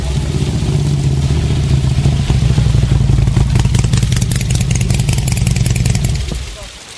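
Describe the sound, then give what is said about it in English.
A motorcycle engine idles at a motorcycle training course in the early morning with a steady low rumble and rapid mechanical ticking, holding for several seconds before cutting off near the end. Faint voices sit underneath. “Well, a wonderful day for a motorcycle course, don't you think?”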